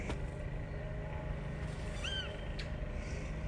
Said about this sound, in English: And there's another spring sound. I can hear a lawnmower. Or at least I think it's a lawnmower. Goodness knows where they're mowing.